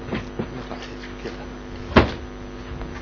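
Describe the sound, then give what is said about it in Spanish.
A chair is shifted into place under a camera indoors, with a few faint shuffles and light knocks followed by one sharper, louder thump as it settles, over a steady low hum. “Ponga la silla, por favor, debajo de la cámara.”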